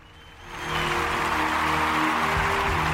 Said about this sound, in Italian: Copiosi applausi al nostro pubblico, che voglio dire, ringraziamo sempre per il supporto.